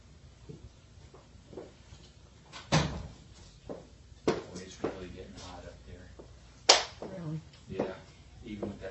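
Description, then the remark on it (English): A front drawer slides open and bangs shut amid rummaging for a new marker, with three sharp wooden knocks spread across several seconds, and a faint murmur of voices in the background. “It's right in the front drawer.”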